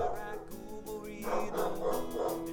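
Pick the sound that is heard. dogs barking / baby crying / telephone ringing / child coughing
dogs barking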